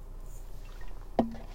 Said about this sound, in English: Sorry for you people that don't like hearing swallowing. It's probably really gross and annoying.